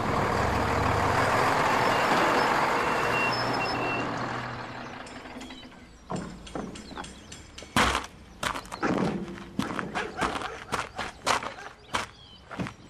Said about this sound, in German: Da kommt auch schon der Lastwagen.